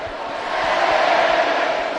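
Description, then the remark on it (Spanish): A stadium crowd at a football match shouts in a loud, continuous roar of many voices, swelling slightly toward the middle and holding steady without a break. “Mira lo que grita la gente.”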